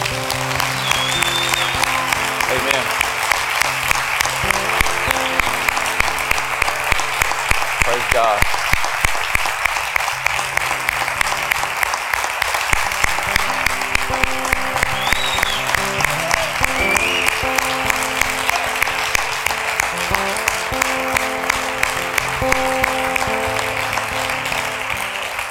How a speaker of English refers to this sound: Would you stand up? Stand to your feet. We're going to applaud.